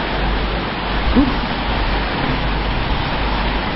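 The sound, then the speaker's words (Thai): Steady, dense hiss of rain falling, constant and fairly loud throughout with no breaks, like a heavy downpour. “เดี๋ยวจะรอข้างล่างรอให้ฝนรอมั้ยรอให้ฝนหมดก่อนนึกนี่จะนั่งมอเตอร์ไซค์ลุยเลยไหนๆจะรอก็รอนี่นะ”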